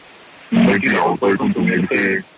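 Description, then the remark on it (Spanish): A doctor's voice speaks in short bursts through electronic distortion that masks its natural character, fairly loud and slightly narrow and processed, disguised to keep his identity private. “No le entiendo muy bien por lo de la distorsión de la voz, doctor.”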